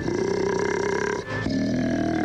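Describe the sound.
A monster under a bed growls, a deep, rough growl rumbling steadily and loudly for about two seconds, briefly catching for a breath midway before continuing just as strongly. No talking accompanies it.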